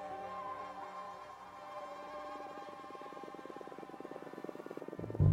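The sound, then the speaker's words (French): A steady, high-pitched insect whine with layered harmonics from the wingbeats of male and female Aedes aegypti mosquitoes, shifting slightly in pitch as the tones converge while they modulate their wingbeat frequency toward the harmony needed for mating, then a brief low thump at the end. “ont montré que chez Aedes aegypti, présent en France uniquement à Mayotte, aux Antilles et en Guyane, mâles et femelles modulent la fréquence de leur battement d'ailes jusqu'à trouver l'harmonie nécessaire à leur accouplement.”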